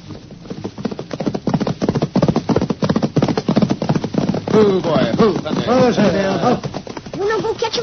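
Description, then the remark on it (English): Rapid hoofbeats of galloping horses pound in a steady, driving rhythm throughout as riders chase off intruders in a Red Ryder western, with voices shouting over them in the second half, urging the horse Thunder on. “Come on, let's ride.”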